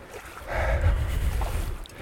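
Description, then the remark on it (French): Continuous rushing water of the Aveyron river swirling in eddies, fairly loud, with a deep low rumble and a steady churning wash that swells slightly midway, recorded from within the river by someone wearing long fishing boots. No voices. “Je suis installé dans l'Aveyron, j'ai bien sûr mis mes longues bottes de pêcheur pour me rendre au sein de l'Aveyron et au milieu des remous.”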